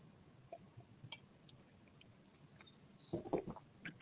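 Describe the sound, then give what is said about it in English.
Someone takes a quiet sip of water, with faint wet mouth sounds and a short cluster of gulping noises near the end. The sounds are soft, and nobody speaks. “I'm just going to have a sip of water real quick.”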